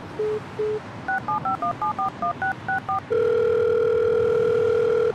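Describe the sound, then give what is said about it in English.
A cell phone keypad beeps through a quick string of dialing tones as a call is placed to Nigel, about a dozen short even beeps, then a steady continuous tone holds at the end. Clear, no voices. “I'll call Nigel, but call me.”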